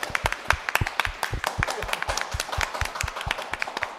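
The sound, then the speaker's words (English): Applause from a small audience: a steady patter of sharp hand claps with a few louder strikes standing out, keeping an even, brisk rhythm for about four seconds with no one talking. “This is where I expect some round of applause, please, from the audience.”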